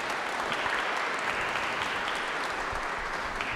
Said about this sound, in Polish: Witamy was bardzo serdecznie w Sanktuarium Świętego Józefa, tutaj właśnie na tym naszym spotkaniu, modlitwie za rodziny i w intencji obrony życia. Może małe brawa na dodanie odwagi.